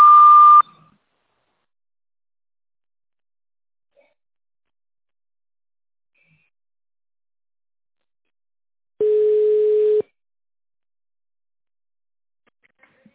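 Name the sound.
long telephone beep tone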